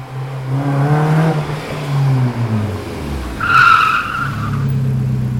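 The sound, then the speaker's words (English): A sports car engine revs loudly, its pitch climbing and dipping as it accelerates, then tires squeal in a sharp, screeching skid before the engine roars on steadily. No voices are heard. “Is this a Ferrari?”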